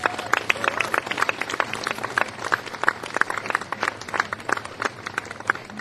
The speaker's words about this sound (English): Can we have a round of applause for everybody who does and sets up the Connecticut Folk Festival?